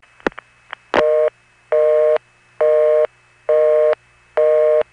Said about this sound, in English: But there is one more example I found where there is a short pulsing sequence followed by that same unique dropping sound to a busy.